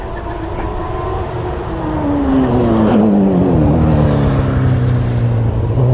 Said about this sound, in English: So we're down at the finish line now, we've got another car coming around, not quite sure what that is, some kind of specified modification car. It's like a mini Formula One car.